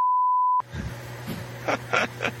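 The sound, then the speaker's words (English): A loud, steady high-pitched censor bleep lasts about half a second, then cuts off abruptly into a low hum and faint, muffled sounds. “Let's beep that out.”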